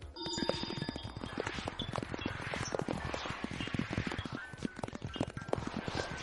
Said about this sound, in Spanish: Pues son vientos solares, que suena un poquito inquietante.